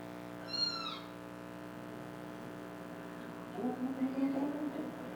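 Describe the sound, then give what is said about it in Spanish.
A kitten gives a short, thin, high-pitched mew near the start, followed a few seconds later by softer, lower mewling, all over a steady background hum. “Su hijo menor Rigoberto, que asiste a Head Start, aprende a cuidar los gatitos”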